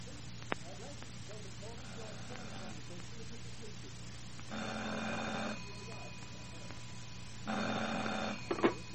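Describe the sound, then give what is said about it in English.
A telephone rings at night in two bursts, each about a second long with a pause between, fairly loud, over a steady low hum with faint breathing sounds before the first ring. “Then, just as I got nicely off to sleep one night, the phone rang.”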